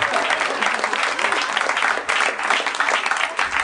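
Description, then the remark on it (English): An audience at a Harmontown live show claps steadily, a dense, loud wash of many hands with a brief dip partway through before it swells again. “Seems like a good time to give him a round of applause.”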